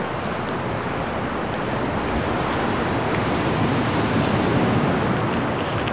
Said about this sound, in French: Des rafales de vent.